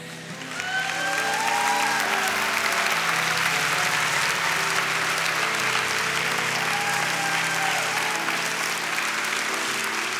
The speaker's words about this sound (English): Do you know, some of you might be wondering, why are people applauding? Why are people... Well, do you know, the Bible says that whenever we reach out to Jesus, heaven rejoices.